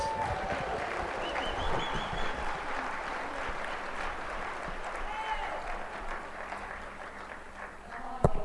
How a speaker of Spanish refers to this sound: Ahora ya sé por qué estaban aplaudiendo por él.